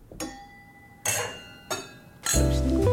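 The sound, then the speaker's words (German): Wine glasses clink together in a toast, about four bright strikes spaced apart, each leaving a clear ringing tone that lingers; no one speaks. “E cin cin.”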